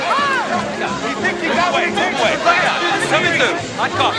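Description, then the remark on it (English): A dense hubbub of many overlapping voices, a crowd of reporters and fans chattering and calling out at once, steady and fairly loud throughout with no single voice standing out. “He grabs Henry's hand and pulls him through the crowd.”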